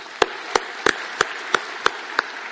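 An audience in a hall applauds company leaders and their teams in a steady rhythmic beat: seven sharp, evenly spaced claps stand out over a continuous hiss of softer clapping, with no voices.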